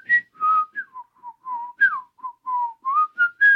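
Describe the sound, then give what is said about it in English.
A jaunty tune is whistled alone: a quick run of clear, pure notes that step up and down in a bouncy melody, with short gaps between phrases and no talking. “It's either Pinocchio or someone singing a Pinocchio-ish song.”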